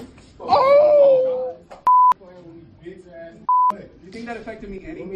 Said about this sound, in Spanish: Un estudiante ha sido arrestado por agredir a una profesora mientras sus compañeros grababan la escena y se reían. Los pitos son insultos y lo primero que se escucha es una bofetada a la profesora.